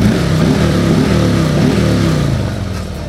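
A Harley-Davidson motorcycle engine rumbles loudly, its deep throaty pitch rising and dipping as it revs, then easing slightly toward the end, outside a motorcycle club building near Highland Park in Detroit. No voices are heard.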